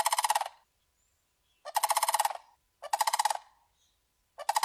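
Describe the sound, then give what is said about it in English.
A sandhill crane bugles in loud, rolling, rattling bursts, four calls separated by short pauses, clear with no talking. “they do these bugling sounds that can be heard for over”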